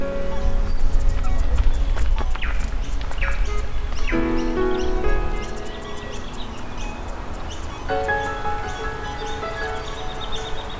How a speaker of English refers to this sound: Ooh, okay, what's that? Ooh, it's an eastern yellow robin.